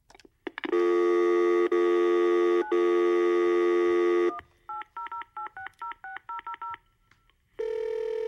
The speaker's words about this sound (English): Phone is ringing.